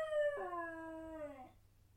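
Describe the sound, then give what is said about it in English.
A dog that has fallen through the branch cover of a Burmese tiger pit lets out one sharp, drawn-out yelp that starts high and slides downward in pitch, loud, lasting about a second and a half before cutting off into quiet. “Your Burmese tiger pit has claimed one of my best dogs.”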